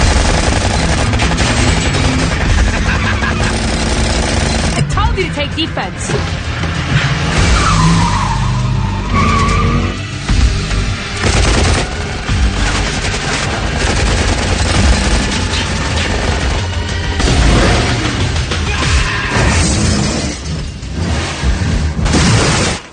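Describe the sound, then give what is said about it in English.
Loud, dense action-movie car chase soundtrack: tires skid and squeal over roaring engines of cars fitted with guns and flamethrowers, one a Mustang, while bursts of rapid gunfire and heavy explosion booms crash through, continuous and chaotic with no pauses or speech. “And there's shooting and killing. And these cars have guns and flamethrowers.”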